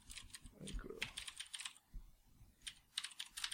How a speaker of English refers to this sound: All right. We can cut this out because I'm typing.